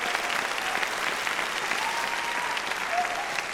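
An audience claps for a Vocal Week coordinator in steady, dense, continuous applause, a broad wash of overlapping hand claps at an even, moderate loudness from start to finish with no voices standing out.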